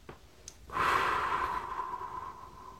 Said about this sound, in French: Troisième respiration, j'inspire profondément par le nez. J'expire par la bouche.